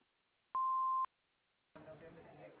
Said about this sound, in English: We can't come to the phone right now, but if you'll leave a message after the tone, we'll get back to you as soon as we can.